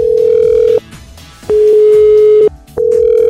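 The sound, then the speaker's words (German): A telephone ringing tone on an outgoing call to a number just dialed: a steady, loud single-pitched beep sounding in three long bursts separated by short pauses, with a faint murmur of background sound underneath. “Ich habe das Nummer nämlich schon gewählt und wir leiten jetzt da gerade mal an.”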